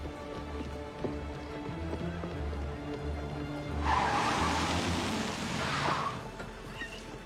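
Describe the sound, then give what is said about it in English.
A car engine rumbles, then a loud rushing hiss of tires skids for a couple of seconds as the vehicle pulls up and stops, leaving a low idle. “Guys, whose car is this? Just get in!”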